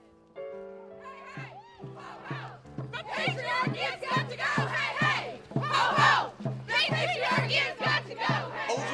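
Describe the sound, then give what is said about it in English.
A large crowd of anti-Trump protest marchers shouts and chants together in a steady, rhythmic cadence, with a regular low thumping beat running underneath, loud and dense throughout. “Waves of anti-Trump marchers roll through hundreds of towns and cities.”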